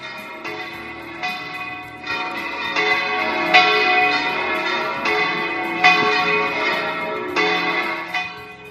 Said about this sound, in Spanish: Es el de las campanas de nuestra catedral y nuestras parroquias que sonaban el pasado domingo, domingo de resurrección, para anunciar a todos que Cristo ha resucitado. Lo hacían a las 12 de la mañana